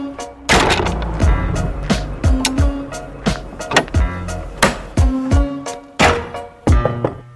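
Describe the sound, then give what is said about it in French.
Loud, hollow bangs on a large barn door as a France Inter reporter knocks to see if anyone is there: a dozen or so heavy knocks in an uneven rhythm, each with a booming low thud and a brief rattling ring, with no voices. “Une grande porte de grange aussi. J'essaye, au hasard.”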